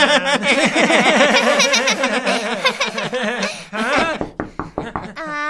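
Several sharp knocks on a door arrive in a quick, slightly uneven burst near the end, after a stretch of loud, animated vocal sounds like laughing and chattering.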